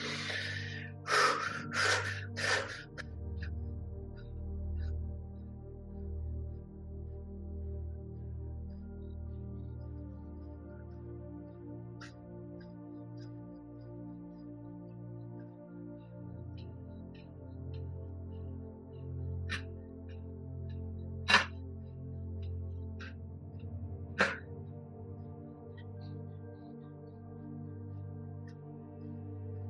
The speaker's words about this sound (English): So we're throwing ourselves into sound and movement to then go back to stillness and silence. So faster breathing, rhythmic body movements, and noisy exhalations or sounds coming out for the next 30 or 40 seconds starting now.